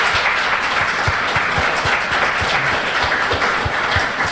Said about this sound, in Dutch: Geef ze allebei een applaus.